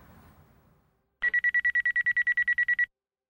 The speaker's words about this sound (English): It was 3 a.m. when their phone broke the silence, followed by a knock at the door and the rotating amber light of an emergency vehicle raking their dark living room wall.